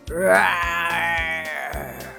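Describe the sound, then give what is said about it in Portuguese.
A loud, drawn-out roar of the monster Surradane, sounding like an angry bark, that swells upward in pitch and then holds, rough and wavering, with low throbbing pulses underneath and no talking. “Enquanto caminha pela terra, Surradane solta um rugido que mais se parece com um latido bravo e zangado.”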